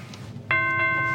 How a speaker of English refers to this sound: I'm coming. Stop ringing that doorbell like that.